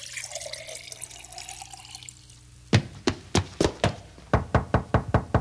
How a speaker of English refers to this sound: I'll pour a glass and bring it to him myself.